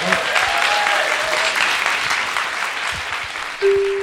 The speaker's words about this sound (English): let's have a round of applause again for Donica Dennehy.